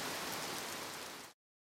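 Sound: rain falling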